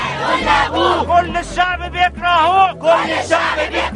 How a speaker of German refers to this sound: Tag 8 der Proteste in Ägypten. Heute schreien hunderttausende Menschen in Kairo Präsident Mubarak aus dem Amt.